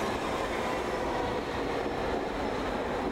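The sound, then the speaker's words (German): A subway train arrives: a steady, dense rumble fills the space, a continuous rolling roar with a faint metallic edge that holds at an even, fairly loud level throughout, with no voices. Partly cloudy, dry weather around 9 °C, before sunrise. “Vielleicht effektiv habe ich, dass da eine U-Bahn kommt.”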